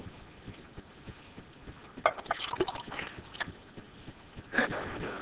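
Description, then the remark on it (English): Water pours into a glass in a few short splashing bursts, with small drips and clinks against a quiet background. “I'm just going to get some water here.”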